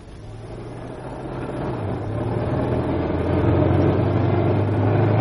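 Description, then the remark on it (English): The engine of an old car called Genevieve runs with a low, uneven throbbing hum, knocking and rattly noise, its pitch stepping up partway through as it grows steadily louder. No one speaks. “Sounds a bit rough, doesn't she?”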